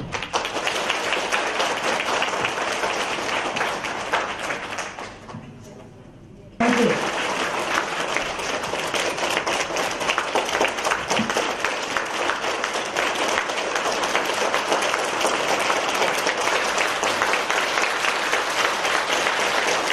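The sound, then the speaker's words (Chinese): Loud, sustained applause from a large crowd in New Zealand welcoming Master Lu (卢台长) to give a Buddhist teaching talk, a dense steady clatter of many hands clapping that briefly dips and thins around the middle before surging back at full strength. “那么一会儿我们以热烈的掌声欢迎卢台长为我们今天开示，我们要感恩卢台长，谢谢大家。”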